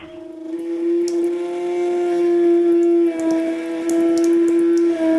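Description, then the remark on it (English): A bathroom sink faucet running, its pipes giving off a loud, steady, mid-pitched moaning drone with overtones above a hiss of flowing water and scattered small clicks. “it's actually the sound of Mark's bathroom sink faucet”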